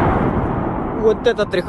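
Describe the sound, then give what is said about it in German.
Ukrainian kamikaze drones fly toward a Russian oil refinery and set it on fire, filmed by an eyewitness last October: a steady, rumbling low roar of wind-like noise, then a few short tonal bursts and sharp flares near the end, with murmured voices faintly underneath. “Was wir hier hören, das ist ein Angriff von ukrainischen Kamikaze-Drohnen, die in Richtung einer russischen Ölraffinerie fliegen und diese dann in Brand stecken.”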